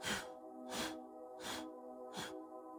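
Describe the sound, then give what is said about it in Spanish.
Four sharp, forceful exhalations push out through the nose, driven by the abdomen during a breathing exercise, in a steady rhythm about every two-thirds of a second, breathy, over a soft sustained tonal background. “Y exhalo.”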